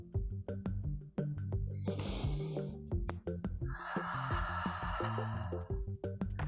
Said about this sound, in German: Dreht euch nach rechts, atmet gerne aus durch den Mund, noch einmal nach links und nach rechts.